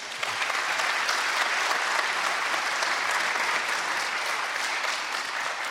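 A crowd claps steadily for a couple, a dense, even wash of applause from many hands. It holds at a constant loud level for about six seconds with no voices standing out.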